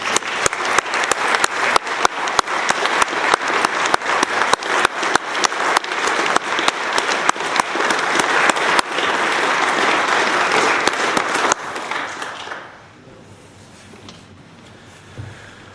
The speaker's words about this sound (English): Please join me in a round of applause for the Boys and Girls Youth of the Year as they exit the chamber.